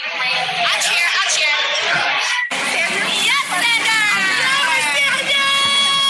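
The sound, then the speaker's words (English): A party crowd cheers and screams loudly and without letup, high-pitched shrieks and excited voices piling over one another, with a brief dip midway before the shouting surges back. “This is at the Bryson Win present. The crowd.”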